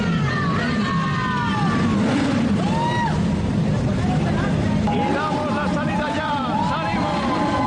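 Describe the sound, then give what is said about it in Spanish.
Hundreds of motorcycle engines roar together at the starting flag of a ride along an avenue, steady and loud, with individual revs rising and falling over the rumble and a murmur of crowd voices underneath. “Cientos de motos rugieron al unísono, creando un sonido atronador que resonó por toda la avenida.”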